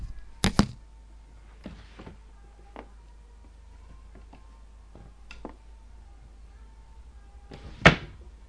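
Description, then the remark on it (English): Wooden thuds and knocks of a wardrobe door and drawers being opened and shut by a person getting dressed, with a sharp bang at the start, quieter clicks and bumps in between, and a firm closing thump near the end. “It'll just be probably noises of me opening the wardrobe and opening drawers and closing the wardrobe and closing drawers.”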